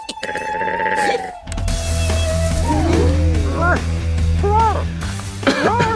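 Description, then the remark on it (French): A sheep, the main character of a film, bleats several times in short, wavering cries in a film trailer over a steady background of music, with a few quick vocal sounds and a brief pause near the start. “Un extrait de bande-annonce qui va être très, très, très étrange puisque le personnage principal ne parle pas, il bêle.”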